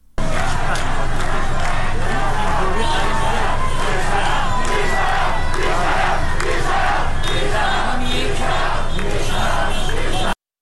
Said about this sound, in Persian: در تهران در محله سعادت آباد معترضان گرد هم آمده و اعتراض خود را با سر دادن شعار و به صدا درآوردن بوق خودروها نشان می‌دهند.